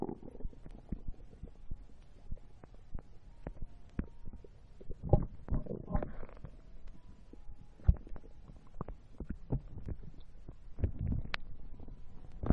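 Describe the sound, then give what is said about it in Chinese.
Muffled rumbling from a woman's stomach, with low gurgles and squelches, punctuated by scattered soft clicks and thumps, heard by a listener with their head resting against her belly; no talking. “可以听到什么声音吗？姐姐肚子在咕咕咕的叫呢”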